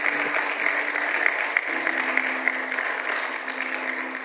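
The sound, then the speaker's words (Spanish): A church audience applauding the Lord steadily, a dense wash of many hands clapping at an even level throughout, with a faint sustained hum running underneath and no voices standing out. “Denle aplausos al Señor, hermano.”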